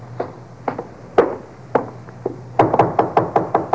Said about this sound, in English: Let him knock again.